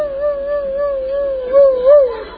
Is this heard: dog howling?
yes